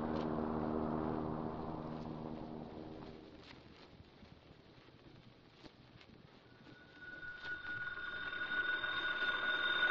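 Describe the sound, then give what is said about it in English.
A telephone rings with a steady, bright electronic tone as a call is placed to police headquarters; the ringing starts about two-thirds of the way through, following a fading low hum and a stretch of hissy background noise. No one speaks. “Well, what do we do now? We phone the police.”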